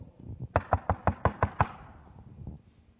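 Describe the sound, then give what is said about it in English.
A quick, steady series of about seven knocks on a door, fairly loud, followed by quiet with faint background noise. “How many of you would go to your friend's house, knock on the door?”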